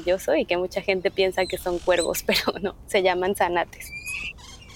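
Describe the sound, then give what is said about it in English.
Great-tailed grackles (zanates), black and slightly shiny birds, call in Mérida, Yucatán, Mexico. A quick run of loud, squeaky, nasal notes and squeals ends with a thin, rising whistle as the calling fades. “And in the background, there is the sound of birds called garnets, which are black, a little bit shiny, and many people think they are crows.”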